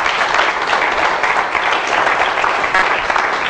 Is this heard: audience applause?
yes